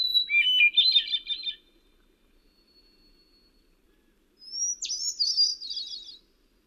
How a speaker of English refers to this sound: Like a thrush sounds best if you back off from it a little bit and get that rich melodic sound bouncing off the surrounding trees.